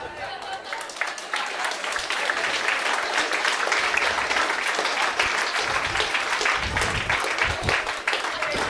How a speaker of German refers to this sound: So viel Applaus hat der Abschleppdienst noch nie bekommen.